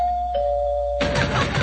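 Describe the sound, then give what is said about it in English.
A doorbell chimes in two notes, a brief higher tone dropping to a longer, slightly lower ring, which then gives way to a sudden wash of broad, hissy noise. “Will somebody open this damn door?”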